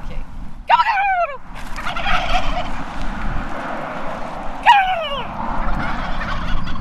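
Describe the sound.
A person mimics a turkey to attract the attention of turkeys, letting out two loud, warbling gobbles a few seconds apart over a steady outdoor hiss, with no talking.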